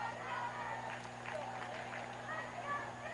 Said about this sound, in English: And you can start to hear this lively crowd on a Friday night start to come alive. One of the final Friday games of the season for the Biloxi Shockers.